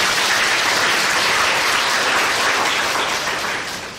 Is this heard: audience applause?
yes